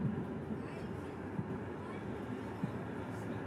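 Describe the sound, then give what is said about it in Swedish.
A tram rolls along its rails shortly before stopping at the central station, with a steady low rumble, a couple of soft knocks from the wheels, and faint indistinct voices murmuring underneath. “Strax innan spårvagnen stannar vid centralstationen ser man mosaiska kyrkogården”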